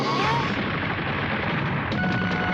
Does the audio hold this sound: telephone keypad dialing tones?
no